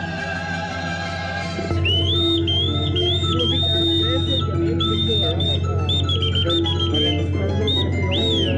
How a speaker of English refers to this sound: As the Cutmaton was docking in Sir John Rogerson's quay, whistles are how the watch officers send their orders to the mast crews working on sails high overhead.